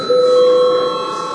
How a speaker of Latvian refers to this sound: Lūdzu zvanu, lūdzu deputātu klātbūtnes reģistrācijas režīmu.